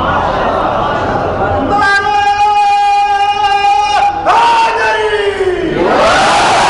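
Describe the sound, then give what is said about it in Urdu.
A crowd chants the religious slogan Nara-e-Takbeer: one loud, long-held shouted call, then a mass of voices answering in a surging roar that dips and rises again, over constant crowd noise. “ایسا نہیں, نعرہ اچھا لے رہے دائیں ہاتھ کو بلند کرے, نعرے تکبیر سے شروع کرے, ہاتھ کو بلند, بائیں ہاتھ کو بلند کرے”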